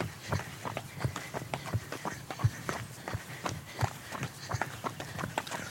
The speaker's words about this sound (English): what else did you hear? Our footfalls.